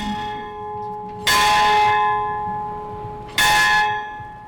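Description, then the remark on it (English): A large church bell on the King's campus in Halifax rings out twice, each loud strike about two seconds apart, its rich ringing tones lingering and slowly fading between strokes with faint outdoor ambience beneath. “That successor bell continues to ring here on campus.”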